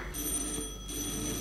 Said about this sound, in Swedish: Det ringer, men det, vi kan inte hålla på att svara här. Vi har kommit så långt i... ovanligt, det brukar inte ringa så här.